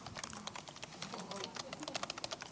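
Rapid, uneven keyboard typing, a steady stream of light clicks and taps with brief pauses, and faint background noise underneath; someone is typing notes to themself for future reference.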